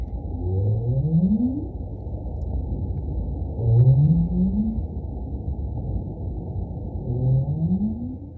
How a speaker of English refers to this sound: So who is that big one and why is it making that noise? That is a North Atlantic right whale. Okay. And that's a really iconic sound for Cape Cod Bay and for Massachusetts Bay because that's the sound that both males and females use as a contact call